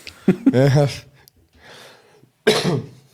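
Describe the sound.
A person who is still somewhat hoarse coughs into the microphone. There is a loud, throaty, partly voiced cough, a soft breathy inhale, then a second sharp, harsh cough burst.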